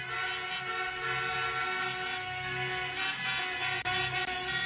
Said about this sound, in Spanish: Estos pitidos de coche nos meten en situación. Claro, en medio del tráfico de la ronda de Dal.